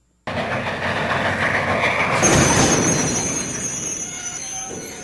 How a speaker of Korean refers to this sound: 갑자기 기차가 흔들렸다. 그들은 모두 뒤엉켰고 스키나 짐짝들이 머리 위로 쏟아졌다. 기차는 정지해버렸다.